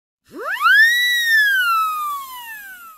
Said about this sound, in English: Look at this horn. I've got a siren in the mouthpiece. Listen.